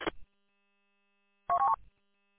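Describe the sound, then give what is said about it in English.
Telephone keypad tones: a brief electronic beep at the start, then a short cluster of dual-pitched dialing tones about a second and a half later, fairly loud against near silence. “Hey, I got to take a phone call for a few minutes.”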